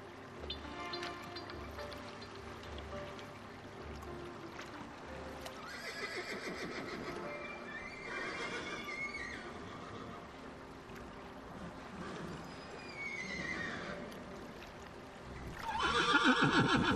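Horses neigh and whinny repeatedly, several loud calls rising and falling, over a steady background with a clip-clop rhythm and a faint watery wash; no one speaks.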